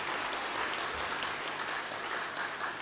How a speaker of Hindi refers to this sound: जोरदार ताली बजाएं अपने लिए, बैठ जाएं।